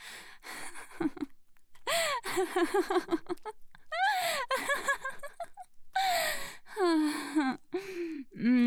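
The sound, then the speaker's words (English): Heavy, rapid breathing broken by a series of sharp voiced gasps and short moaning sighs, loud and irregular, with no words spoken. “Oh, I can hear you breathing harder.”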